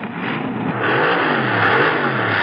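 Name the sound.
car engine revving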